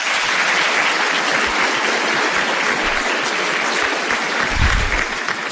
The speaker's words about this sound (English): And lastly, the leadership Weakley County alumni, Weakley County West Star alumni, and all the volunteers who helped us organize this event tonight. So if we could just give them all a round of applause.